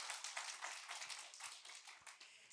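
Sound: audience clapping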